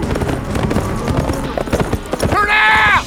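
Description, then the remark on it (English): Two riders' horses gallop into a compound with a big house, bunkhouse, cook shack and barn, their hooves pounding in a rapid, uneven clatter, and a loud whinny rings out near the end. “Parker and Cal galloped into the compound where the big house, bunkhouse, cook shack, and barn were located”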